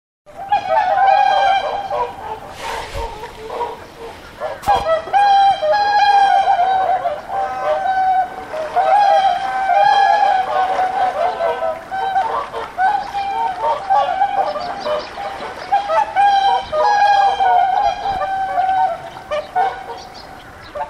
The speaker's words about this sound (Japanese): 最後は音で伝える盛岡のコーナーです。毎年冬のシーズンに舞い降りるたくさんの白鳥。3月になり、徐々に白鳥が北へ飛び立ち始め、少し寂しさも感じますね。そんな寂しさを吹き飛ばすような元気な白鳥の声をお届けします。